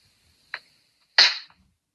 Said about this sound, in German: Darf ich nochmal klatschen kurz?